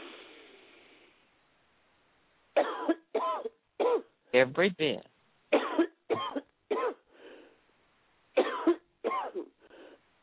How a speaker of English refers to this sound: Take a deep breath and cough it out.